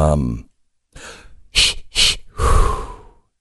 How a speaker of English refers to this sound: I think we all need to do this. We all need some breathing techniques